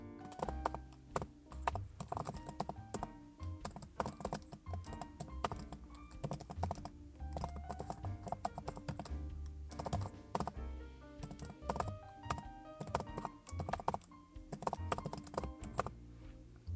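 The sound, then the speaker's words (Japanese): Steady typing on a Surface laptop keyboard, with rapid clicking keystrokes in uneven bursts and the occasional heavier tap, running on its own with no voices. “サーフェイスのキーボード、なんだろう、パソコンね、なんか大きいキーボードもあるんですけど、今回はあえてのこれでございます。”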